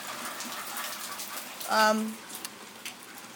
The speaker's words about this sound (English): fucking hell! Raining!